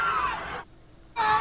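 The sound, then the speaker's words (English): A crowd of protesters in Charlottesville screams and shrieks loudly as a car accelerates and rams into them, the high wailing voices briefly cutting out for about half a second before erupting again. “takes his car and rams it into a bunch of the protesters against the alt-right in Charlottesville”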